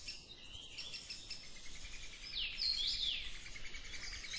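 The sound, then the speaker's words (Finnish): High, thin chirps and squeaky calls from a brood of young tits in a nest box, a steady busy twittering that gets a little louder midway, with no one talking. “Tiaispuiku tuossa vieressä.”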